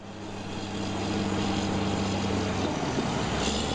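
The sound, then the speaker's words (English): A bulldozer on the Jersey shore pushes sand back towards the ocean to restore a beach washed away by a storm: a loud, steady diesel engine drone with a low humming tone beneath a broad grinding rush that swells slightly after the first second, with no voices. “That's a bulldozer pushing sand back towards the ocean on the Jersey shore.”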